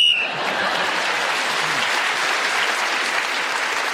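game show whistle blown

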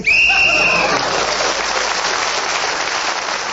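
game show whistle

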